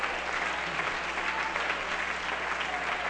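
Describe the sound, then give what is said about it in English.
A church audience claps hands together in a steady, continuous wash of applause that fills the room at an even loudness for a few seconds, with no clear voices rising above it. “Come on, clap your hands with me.”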